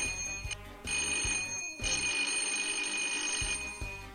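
An electric doorbell rings loudly, a harsh metallic rattling that repeats in several long bursts separated by brief pauses. No voices can be heard.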